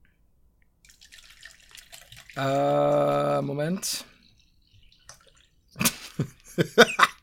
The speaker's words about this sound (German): Er trinkt Wasser mittlerweile.